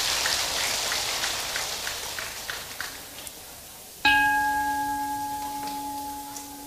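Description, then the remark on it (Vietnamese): A crowd of parents and students claps in a dense, steady burst of applause for about four seconds, then a sudden sustained electronic tone rings out as the clapping fades underneath. “thì hãy cho một tràng vỗ tay thật lớn để cam kết nào.”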